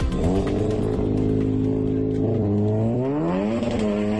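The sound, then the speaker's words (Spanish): Hundreds of tuned cars at a tuned-car meetup in the small hours at the Polígono de la Sion industrial estate rev loudly and continuously. Their pitch climbs and dips in sweeping waves as the throttle is worked, with a deep rumbling tone throughout and no voices. “Madrugada en el polígono de la Sion, ya quedada de coches tuneados, cientos de vehículos.”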